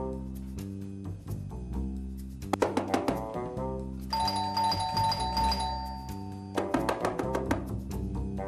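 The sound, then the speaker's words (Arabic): An electronic doorbell at a home's door rings over and over, going unanswered, its tonal chime melody repeating in bright bursts with a longer sustained high ring in the middle, fairly loud and with no voices. “وقت بتدقوا الباب وما حدا بيفتح يعني ما في حدا بالبيت أو ما بدهم يفتحوا لحدا.”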